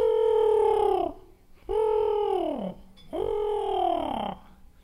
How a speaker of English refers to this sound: And if you're lucky, once it got darker, you could maybe hear a screech owl.